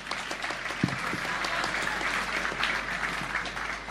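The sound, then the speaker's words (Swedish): Steady applause from a crowd, dense and continuous clapping at moderate loudness for a few seconds, with a faint voice or two briefly audible beneath it. “Applåd!”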